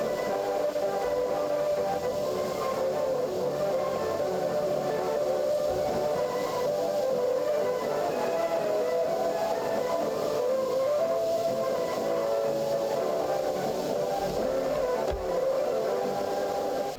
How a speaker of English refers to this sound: You hear the music and in the background you hear a Morse signal. That means 4N. So each jamming station which jammed the Polish service of Radio Free Europe starting from 1977.